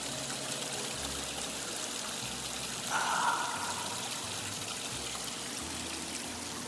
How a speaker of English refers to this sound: And now I'm going to take you outside on my deck when I go outside, where I have my waterfall. Listen, see if the mic picks up the waterfall. How relaxing is this? Ah, the sound of water.